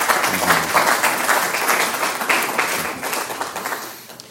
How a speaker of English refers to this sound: I actually think that deserves itself a little round of applause.